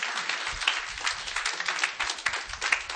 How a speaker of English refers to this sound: Come on, clap your hands unto God. He will bless the church.